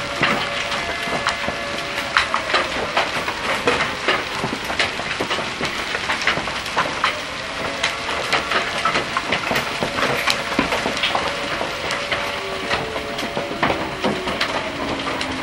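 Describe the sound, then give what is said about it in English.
Hail pelts down steadily in a long-lasting storm, a dense, continuous clatter of sharp ticks and knocks striking hard surfaces, with a constant rushing wash underneath and no voices. “We've had a lot of hail in the last couple of years, but it seems like this has lasted a long time, this storm.”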